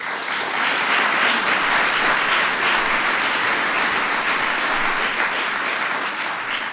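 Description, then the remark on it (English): An audience at a Minnesota basketball event applauds loudly and steadily in tribute to Flip, a dense wash of many hands clapping that holds at an even level for several seconds with no voices rising above it. “Obviously, he experienced a tragic illness, and so on behalf of all basketball fans, this day, too, is for Flip, and we want to give him a big round of applause.”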